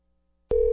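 A telephone rings: a steady electronic tone starts abruptly about halfway through and holds loud and unbroken to the end, with silence before it and no voices.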